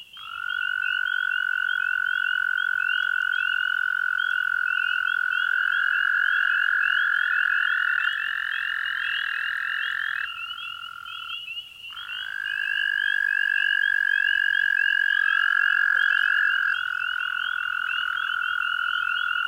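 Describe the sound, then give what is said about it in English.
Long, steady musical breeding trills of American toads in the springtime landscape of the east, several overlapping at slightly different pitches, each sustained for many seconds with a brief pause before another resumes; loud, no voices. “In the east, the springtime landscape comes alive with the long, dreamlike trills of American toads.”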